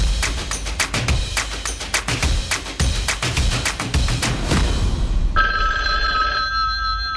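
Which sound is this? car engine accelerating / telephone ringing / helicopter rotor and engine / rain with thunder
telephone ringing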